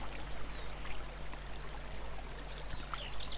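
A steady, rushing murmur of water bubbling down over stones, with plants and trees reaching over the water from the side and sunlight reflecting in it; continuous and fairly soft, with a few faint high chirps flickering above it and no voices.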